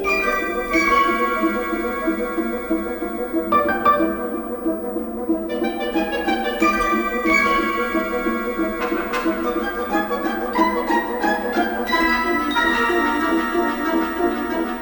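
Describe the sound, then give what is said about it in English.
Busy orchestral music with sustained, layered tones and sharp, repeated accents that mimic the ticking of a clock, giving a frantic, hurried feel. No voices are heard. “Again, there's that frantic imitation of a ticking clock.”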